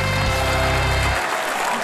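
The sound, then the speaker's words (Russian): A burst of loud, steady applause fills the whole moment, dense clapping from an audience, with a low musical tone underneath at first that fades out partway through. “Аплодисменты, маэстро.”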